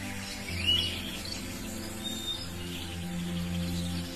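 Birds chirp softly and sparsely, a few brief high tweets rising over a steady low ambient hum, with no voices present.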